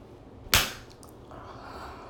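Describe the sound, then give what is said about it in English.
A single sharp slap of a hand against a woman's breast, loud and abrupt, followed by a quick decay into quiet with faint rustling. “Oh, now slap it. Like that.”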